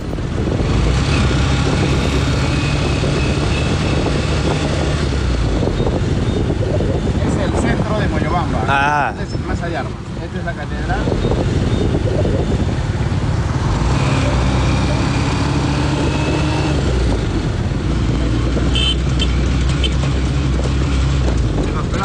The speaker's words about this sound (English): the man who owns the hotel I'm staying in, has come to pick me up from the bus in his tuk-tuk and bring me to his accommodation.